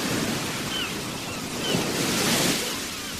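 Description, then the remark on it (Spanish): Sea waves surging and breaking on a shore, a steady broad wash of surf that swells louder midway through before easing slightly, with no voices present. “Fuimos al mar. ¡Qué miedo tuve! ¡Y qué alegría! Es un enorme animal inquieto. Golpea y sopla.”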